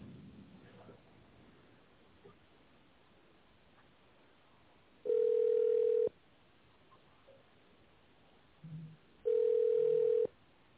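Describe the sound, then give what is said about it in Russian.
A telephone ringback tone heard while waiting for a secretary to answer after an automated phone menu: two steady, loud mid-pitched beeps, each about a second long, separated by a few seconds of faint line hiss and quiet murmur. “Для отправки факса нажмите 0 или дождитесь ответа секретаря.”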